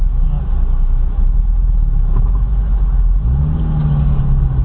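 A small car with a sensitive clutch rumbles at a low, steady idle, then revs up with a rising hum and pulls away, the pitch climbing and holding as it accelerates.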